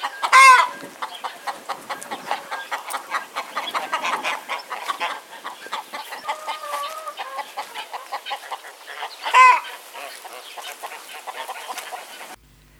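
A flock of chickens clucks steadily, with two loud rooster crows cutting through near the start and again toward the end before the sound cuts off.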